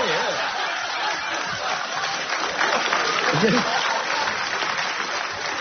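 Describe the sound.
A crowd applauds steadily and continuously throughout, a dense wash of clapping at fairly constant loudness, with a few voices and light chuckles faintly audible beneath it.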